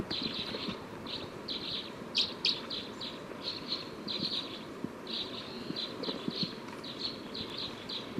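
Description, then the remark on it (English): Bird calls from bird number 306, being recorded, ring out as a steady series of short, high chirps, repeated in quick bursts about every half second over a constant low rumbling background. “Recording bird 306.”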